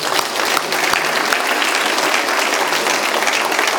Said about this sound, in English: And he told me again. He said, applaud, man. Not just me.